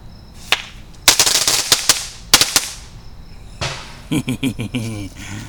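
A crackle bomb firework, also known as a glitter bomb, is lit and thrown down on concrete and goes off: a sharp pop, then loud, dense bursts of rapid snapping crackles in two clusters, fading out before a voice calls out briefly.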